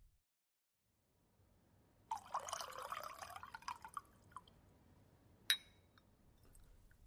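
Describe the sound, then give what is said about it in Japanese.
Another cup of tea streams into a cup with a steady, splashy trickle for about two seconds, tapering off, followed by a single bright clink of the cup. No one speaks. “お茶もう一杯入れてくれる？”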